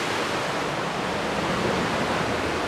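A steady, dense roar of rushing water from a large waterfall fills the whole clip, loud, without pauses or changes. No voices are heard.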